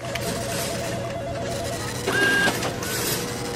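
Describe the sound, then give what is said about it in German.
An office printer rattles steadily with a mechanical, stepping hum, joined by a brief high electronic tone partway through amid a dense, busy background. “Telefone klingeln, Drucker rattern, Kollegen und Kolleginnen reden durcheinander, Stress pur.”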